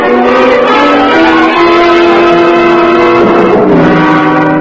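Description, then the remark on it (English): A loud, steady car engine drones continuously, its pitch holding and then shifting partway through as the agents' car labors up a mountain, with no voices present. “By two-way radio from their car as they climbed the mountain,”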